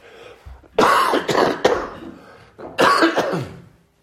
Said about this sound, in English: Excuse me, I'm just going to cough.